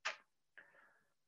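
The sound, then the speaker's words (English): Two crisp clock ticks, a sharp tick followed half a second later by a slightly ringing tock, heard alone. “Different facial expression, clock ticking, paused.”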